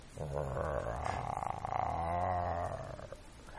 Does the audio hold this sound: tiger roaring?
yes